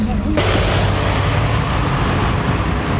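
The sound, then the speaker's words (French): A bus door opens at the Cluny stop with a sudden loud pneumatic hiss that holds steady over the low rumble of an idling engine. “Enregistre le bruit de la porte.”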